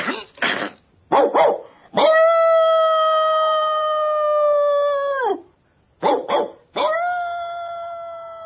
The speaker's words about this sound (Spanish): Sus ladridos llegan a una lejana granja.